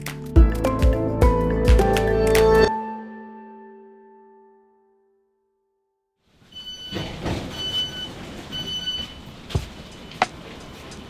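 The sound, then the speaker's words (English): A bright chord rings and fades into silence, then a train pulls into the station at Stevenage with a steady rumble, clanks and a thin high-pitched brake squeal; no one speaks. “If you take a train to Stevenage, one of the first things you'll see when you exit the station is a mural of famous sons of Stevenage.”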